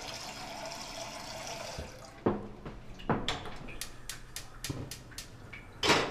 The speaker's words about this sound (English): Right now, I am filling up a pot with water to boil.